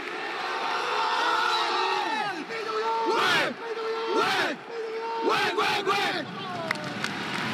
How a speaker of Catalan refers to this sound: El crit de guerra, el típic crit de guerra d'aquests últims 37 anys de la UEC, el pit i collons UEC.